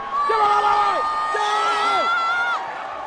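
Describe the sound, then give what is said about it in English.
A large crowd in Rwanda cheers loudly and continuously as Kagame emerges from behind the stage, waving, many voices whooping and holding shrill, rising and falling cries that overlap, then the roar eases slightly near the end. “The crowd receives him as a living hero.”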